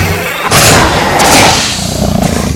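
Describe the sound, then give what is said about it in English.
An alligator attack: a sudden, loud burst of violent thrashing and hissing noise erupts after a brief pause, churning on harsh for about two seconds with no voices. “Alligator attacks.”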